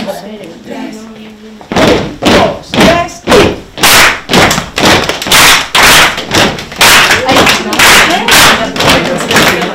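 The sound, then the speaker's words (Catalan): A group claps hands in a steady, loud rhythm, roughly two sharp claps per second for several seconds, after a brief stretch of faint voices. “Educadores i pedagogs, picant de mans, parem.”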